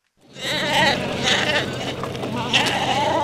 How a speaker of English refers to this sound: Shaggy, fat sheep are herded off a boat onto a narrow path here in Narsaq. This is just a speck of a town, only 1,200 people in southern Greenland.